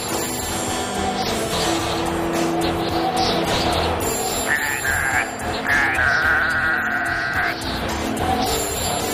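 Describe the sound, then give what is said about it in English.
Several goats bleat loudly and repeatedly over a busy, noisy background, their wavering cries overlapping and sustained, some held on steady pitches as if singing together. “And those goats are in tune.”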